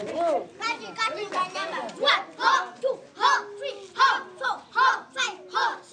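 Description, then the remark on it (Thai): A group of children shout together in rhythmic, evenly spaced bursts as drill cries while practicing kung fu at a school not far from Kampala, Uganda, loud, about ten calls in quick succession. “เสียงเด็กๆฝึกกังฟูกันที่โรงเรียนแห่งหนึ่งไม่ไกลจากกรุงคัมพาลา”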